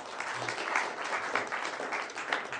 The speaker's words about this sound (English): Round of applause.